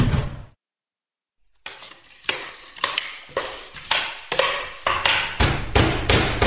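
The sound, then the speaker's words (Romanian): Heavy bangs on a closed train door: about ten fairly regular blows that each ring out briefly and grow louder, following a short pause after an opening burst of noise. “Deschideți ușile trenului!”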